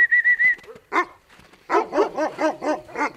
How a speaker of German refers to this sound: Im Hof vor dem grauen Gebäude streunen 6 große weiße Hunde herum.